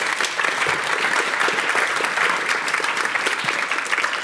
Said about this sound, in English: Round of applause